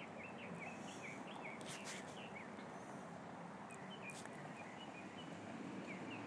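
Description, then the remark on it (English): Birds chirp and sing repeatedly outdoors on a dry day of about 73 degrees, small tweets scattered throughout, over a steady rumble of traffic noise that stays constant for the whole stretch. “Just thought I'd come out here and unfortunately listen to the traffic, but try to get the birds and see how we're doing.”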